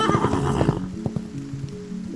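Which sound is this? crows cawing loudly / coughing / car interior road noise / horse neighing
horse neighing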